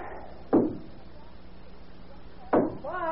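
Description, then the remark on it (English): Someone knocks on a family home's door in the early morning with two heavy, separate thumps spaced about two seconds apart against a quiet background, and a voice starts to speak right after the second blow. “Mom, there's somebody knocking at the door.”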